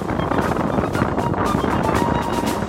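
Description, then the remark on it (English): Strong, overpowering wind roars steadily across the deck of a ship on the Arctic Ocean, buffeting the microphone with rough bursts of gusting noise throughout. No voices are heard. “The wind was overpowering.”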